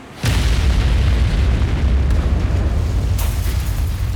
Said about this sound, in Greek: Ο οδηγός, επειδή το φανάρι έγινε πορτοκαλί, μείωσε την ταχύτητα και έγινε η έκρηξη με τηλεκοντρόλ.